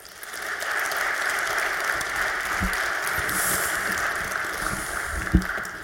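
An audience applauds steadily to welcome a speaker giving a talk on sustainable, open-source e-bikes: a dense, even wash of clapping that holds at the same loudness throughout, with a few sharper individual claps standing out near the end.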